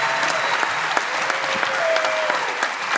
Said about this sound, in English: This was just give them a round of applause just for trying it out. All three of them. Literally all three of them did great in their own way.